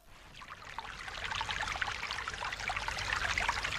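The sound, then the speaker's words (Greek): Soapy water full of suds rushes and gurgles steadily through a wide, large pipe, a dense bubbling flow that swells slightly louder over a few seconds, with no voices. “Τώρα από το στενό σωλήνα μπήκα σε έναν άλλο σωλήνα, χαρδί και μεγάλο και γεμάτο νερά και σαπουνάδες. Τα νερά με σπρώχνουνε, με σπρώχνουνε, με σπρώχνουνε, όλο και πιο γρήγορο μέσα στο χαρδί σωλήνα.”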